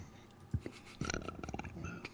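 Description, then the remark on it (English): A person imitates a lion's growl: a low, rough, rumbling vocal snarl that starts abruptly and rolls on for about a second, moderately loud, with no words spoken. “It sounded like a lion.”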